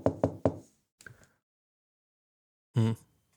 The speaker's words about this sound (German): Also war für mich eindeutig genug, so im Wachwerden, dass da jemand an die Tür geklopft hat.